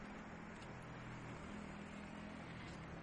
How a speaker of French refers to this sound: Les néons de la nuit de Tokyo. Ça klaxonne un petit peu plus ici, évidemment, hein, parce que là, il y a du trafic, il y a de la circulation.